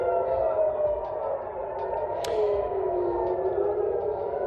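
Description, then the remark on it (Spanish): An air raid siren set off by Iranian missile attacks wails steadily, its long sustained tone gently rising and falling over a constant hum, with a brief sharp click partway through and no voices. “Pero eso sí, haciendo saltar las alarmas.”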